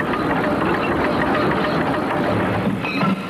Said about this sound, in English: As he waited, he heard a distant train, and sure enough, an engine came happily steaming into the station.